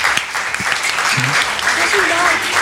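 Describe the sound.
Steady, dense applause from an audience fills the whole stretch, a loud wash of many hands clapping, with a brief low vocal sound and a faint higher voice briefly audible through it.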